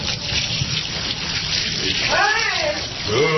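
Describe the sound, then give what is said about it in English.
A sergeant pours a bucket of water over a man's head, soaking him, a loud rushing splash lasting several seconds, followed by a person's high, wavering yelp over the splashing toward the end. “Ooh, water going.”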